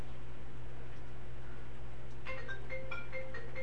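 A phone rings partway through, a quick electronic ringtone of bright repeating beeps that plays over a steady low background hum, with no one speaking.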